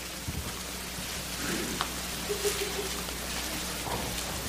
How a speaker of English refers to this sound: Still here, pages turning. This I say then, Galatians 5 and 16.